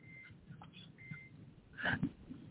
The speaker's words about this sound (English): That's why you hear the beep beep.